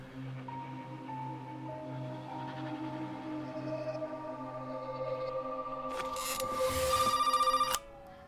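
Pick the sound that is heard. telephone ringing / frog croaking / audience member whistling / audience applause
telephone ringing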